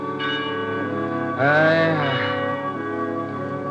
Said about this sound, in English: I shall never forget it, the darkness, the foul water, the mists, and the death toll of the Bell of Ely, drifting over the haunted swamps.